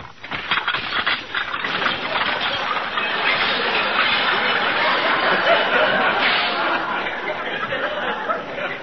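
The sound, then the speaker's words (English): A new dishwashing machine, assembled by the owner along with other kitchen appliances, churns steadily while dishes rattle, clatter and break inside it in a dense, continuous racket lasting several seconds, with no pauses and no voices. “I don't see why it should break the dishes.”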